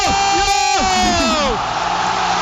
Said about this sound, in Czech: Tak si poslechněte, jak to tehdy ve Štruncových sadech znělo a jak to tam vypuklo v obrovský jásot.